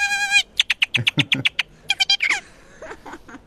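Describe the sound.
A clown from Turkey imitates a bird with his mouth, using no device: a quick series of sharp, high chirps in a steady rhythm, then a few more squeaky calls trailing off, fairly loud.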